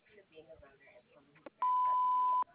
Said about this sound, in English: Sorry you missed us. Please leave a message after the beep or call us on our cell phone. Thank you.